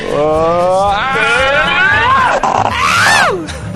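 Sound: group of people screaming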